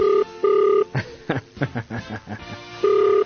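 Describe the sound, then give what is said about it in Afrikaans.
A phone line's ringback tone purrs in short steady double bursts at the start and again near the end, with a stretch of muffled talking in between, as a caller tries to reach someone to give them a prize. “Ek wil graag vir jou prijs gee, antwoord jou foon.”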